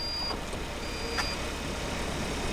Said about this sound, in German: Die Türen schließen sich, alle schnallen sich an und das Auto, vollgepackt mit Elektronik und Sensoren auf dem Dach, fährt von alleine los. Die Testfahrt am Dienstag war die erste in Deutschland unter sogenannten Level-4-Bedingungen.